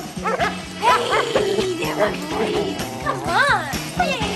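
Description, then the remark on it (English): Two Doberman dogs bark and yip excitedly in quick, repeated bursts, fairly loud, with some whimpering mixed in over a steady, busy background, as they tug their walker along the lawn of a house. “Charlie skips down the vast lawn of the house, being tugged along by two Doberman dogs.”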